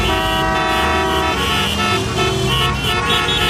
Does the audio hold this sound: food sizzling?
no